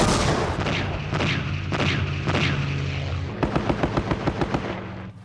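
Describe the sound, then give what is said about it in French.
A loud, rumbling roar of a World War II-era A-1 attack aircraft flying low and slow, with heavy bomb blasts, gives way to a rapid burst of machine-gun fire, about eight sharp, evenly spaced shots as the plane strafes a camp at Lang Ve. “L'avion bombarde et mitraille le camp à 3 reprises.”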